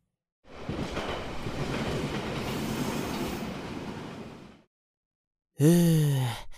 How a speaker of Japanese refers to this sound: ようやく帰れるね。今日の電車は混んでなくてよかった。